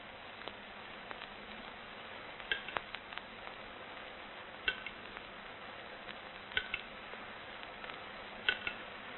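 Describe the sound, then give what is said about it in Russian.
Sharp, dry clicks of a capercaillie's courtship display in the depths of a forest sound at irregular intervals, sometimes in quick pairs, over a steady soft hiss, with no voices present. “В мрачной глубине леса начинает таковать глухарь.”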